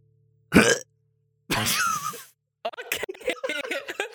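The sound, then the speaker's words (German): An abrupt throat clearing in two rough bursts, a short one and then a longer, grating one, followed by a person starting to talk. “Also, ich habe mich gerade räuspern.”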